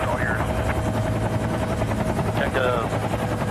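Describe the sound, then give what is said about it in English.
A helicopter hovers, its rotors producing a loud, steady, rumbling roar that fills the whole stretch, with faint voices briefly audible beneath the noise, while a man stands on its landing railing, ready to bungee jump. “And he's standing on the, you know, the railing on the side of the helicopter that it lands on?”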